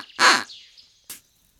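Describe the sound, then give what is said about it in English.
A duck in a flower garden quacks twice, first a loud, raspy, drawn-out quack, then a shorter, sharper one a moment later, with quiet in between. “I'm crying in a flower garden with a duck.”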